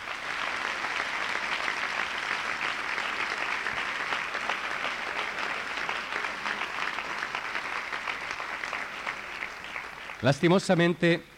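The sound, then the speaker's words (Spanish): An audience claps steadily in dense, sustained applause to the Lord for about ten seconds, then a loud voice bursts in briefly with shouted words as the clapping fades. “¡Fuerte, fuerte ese aplauso al Señor!”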